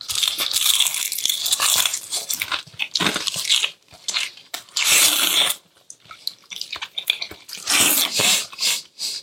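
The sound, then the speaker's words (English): Loud, crisp crunching from repeated bites into shrimp cakes, bursts of crackly chewing coming in irregular waves with brief pauses between them, and no talking. “These shrimp cakes are crazy good.”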